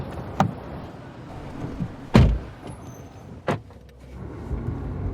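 A car starts up and pulls away, with a few solid thumps and clunks over a steady low engine rumble that continues to the end, with no voices.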